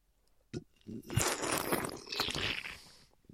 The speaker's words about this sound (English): Let me take a sip of my coffee right now. I haven't done any coffee brands in a while. Should I make this really loud slurping beverages noises now? Yeah, give us the ASMR coffee. I don't know if I can do that. Let me see if I can.